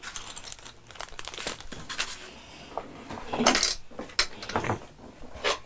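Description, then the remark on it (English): Small game pieces clatter and rattle as they are dropped into a container, a series of irregular clicks and rustles with no talking. “You put all the pieces in there.”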